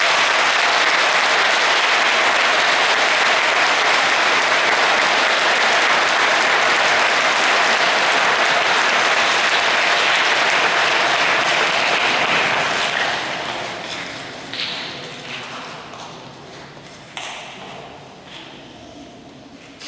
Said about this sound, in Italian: Facciamo un bel applauso a questo ragazzo.